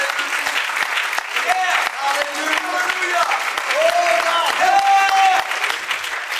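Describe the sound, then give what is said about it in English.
A church audience claps their hands to the Lord, a dense, continuous patter of many hands at fairly even loudness, with voices calling and cheering over it throughout. “Clap your hands.”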